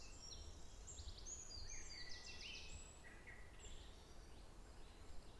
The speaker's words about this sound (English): Quite a lot of birds about today. It's really lovely, isn't it? I mean, it started in lockdown with them being so loud, but now it seems there's so many birds.